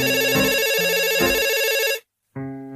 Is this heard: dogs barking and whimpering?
no